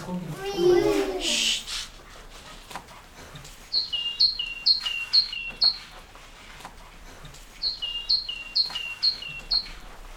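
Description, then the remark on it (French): A great tit sings two bursts of rapidly repeated two-note phrases, bright, after a brief child's voice at the start; faint background noise lingers throughout. “Il y en a une que j'aime beaucoup. La maison charbonnière.”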